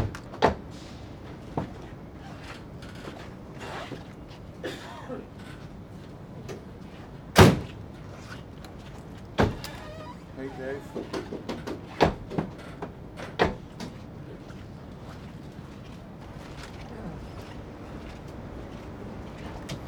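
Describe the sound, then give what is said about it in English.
Car doors are opened and shut several times at irregular intervals, with sharp thuds and clunks, one much louder slam near the middle, over a low background rumble, while the car's doors are checked for noises. “Yeah, just listening for noises, any stock in the car, in the doors or anything like that, and make sure like the bonnets are okay, seated properly and right.”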